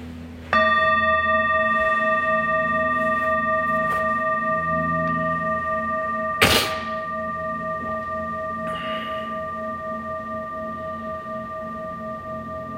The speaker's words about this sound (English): And I'll start and end this practice here with the bell.